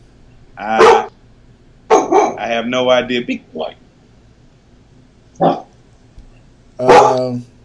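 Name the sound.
dog barking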